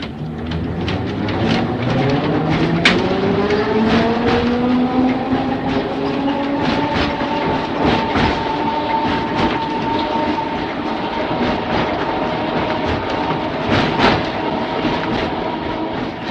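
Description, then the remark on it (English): A tram rattles and clanks along the rails, its motor whine rising steadily in pitch as it picks up speed, with sharp clicks and knocks from the wheels throughout. No voices. “Derek James takes us on a journey back in time this month, reminding us of the days when trams rattled their way through Norwich.”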